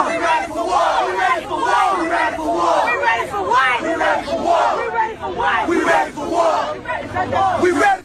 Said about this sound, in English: Again, this is protesters yesterday, last night, in Ferguson, chanting, we are ready for war.